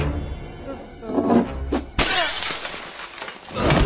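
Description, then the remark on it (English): A few muffled knocks and bumps, then Alvin pushes a jar of corn off a shelf onto Dave's head: a sudden loud crash of glass breaking, followed by a long tail of clinking, scattering shards that trails off before a final rustle. “Alvin pushes a jar of corn off a shelf onto Dave's head, knocking him out.”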